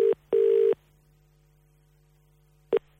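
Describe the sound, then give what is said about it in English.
An outgoing phone call's ringing tone: a steady electronic double-ring burst, a long pause, then the next ring just starting, heard clearly down the line over a faint low hum, with no voices. “will he answer the phone?”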